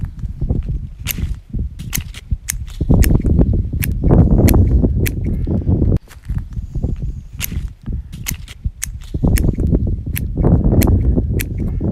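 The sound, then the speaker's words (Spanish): Sharp, dry snips from harvest shears click again and again at an irregular pace in a vineyard during the grape harvest, over a steady bed of rustling and dull thuds as cut grape bunches drop into a bucket. “Es un golpe seco, el clac, y cuando el racimo cae en el cubo”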